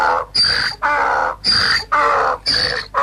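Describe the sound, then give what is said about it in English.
A loud bird call sound effect repeats six times in a steady rhythm, harsh squawking bursts with a piercing high whistle-like edge, separated by brief pauses. “It's a bird.”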